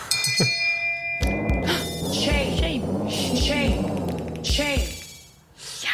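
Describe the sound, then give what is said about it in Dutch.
A loud electronic alarm sound effect played as a 'feminist alarm': steady high beeping tones give way to a blaring, warbling siren that rises and falls repeatedly for several seconds, with no one talking over it. “Het alarm. Feministisch alarm.”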